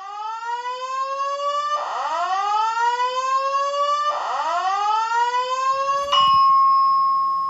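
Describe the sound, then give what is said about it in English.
A loud electronic fire alarm sounds on its own on a hotel floor in Las Vegas at 7 a.m., with rising whoop tones repeating every couple of seconds before it switches to a steady, piercing continuous tone. “Or, alternatively, if you want to be woken up at 7 a.m. by a fire alarm on your hotel floor, like I was, that could happen too.”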